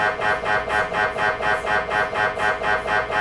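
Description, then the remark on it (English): A loud, steady mechanical hammering from an MRI scanner, rapid buzzing pulses repeating in an even rhythm like a jackhammer, continuous with no voices. “They sound a bit like a jackhammer, someone jackhammering up concrete, really. For everyone listening out there, it sounds a little something like this.”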